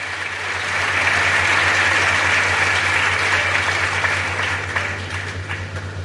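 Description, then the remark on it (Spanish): Steady applause from a crowd, a dense patter of many hands clapping that swells quickly, holds loud for several seconds, then thins slightly toward the end, with a low hum underneath. “Es que aplaudirse, como decía Tate Montoya, es que sois increíbles, ¿eh?”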